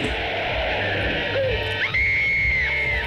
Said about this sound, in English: Behemoth, its bulk unstoppable. Run, run! Look at him run. The panicked crowd.